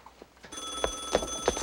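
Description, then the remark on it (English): A telephone rings with a sustained, bright metallic tone, pulsing with a few rhythmic bell strikes, moderately loud, with no one speaking. “I told you not to pick up the phone. Then stop calling me.”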